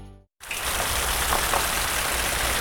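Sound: rain falling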